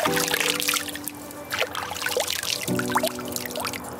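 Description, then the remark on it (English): Water pours and trickles steadily throughout, with small splashes and gurgles scattered across the flow, while a faint low hum drones in the background. “It's completely immersive. With water that's wet.”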